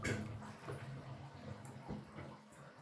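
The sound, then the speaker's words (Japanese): Bath water drains and splashes in a steady wash as the tub is emptied while foam is rinsed off, with small sloshing bursts; a faint low hum sits underneath. “はーい、お湯を抜きながら泡を流していきますね。”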